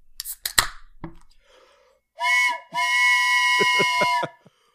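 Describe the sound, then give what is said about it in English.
A train's steam whistle sounds two loud blasts, a short one and then a longer sustained one, each a breathy chord of steady tones, with rhythmic chuffing beneath. A few sharp knocks come first. “The Polar Express is here to pick her up.”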